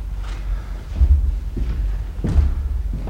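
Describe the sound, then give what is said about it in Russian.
Heavy furniture is shoved and dragged to barricade a door that has no lock, producing a series of dull, booming thuds with rough scraping in between, spaced unevenly over a few seconds with no one talking. “Нет замка, мне заставлю дверь.”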